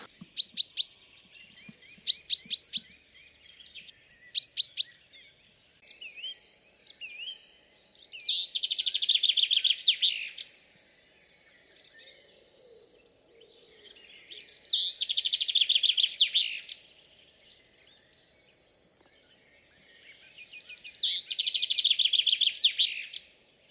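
A chaffinch in Sobibór, Poland, recorded in the morning, gives a few sharp, repeated contact calls, then delivers three bright, rattling song phrases separated by short pauses, clear with no voices present.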